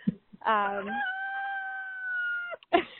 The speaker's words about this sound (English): Ron the rooster has come right up beside me and is cock-a-doodle doing as he does.